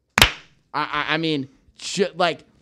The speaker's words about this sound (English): One clap for Billy Barlow.